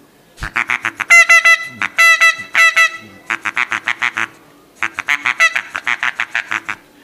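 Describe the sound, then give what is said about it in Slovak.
Calm duck voices imitated on a goose game call, loud: a fast run of short quacks, a few longer drawn-out honking notes, then two more quick rhythmic quack sequences. “Hej, kačičku vieme urobiť v husku.”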